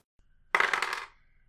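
New dice, rolled during a Blades in the Dark roleplaying game session, rattle and tumble across a hard tabletop in one quick clatter of clicks lasting about half a second, then settle into quiet.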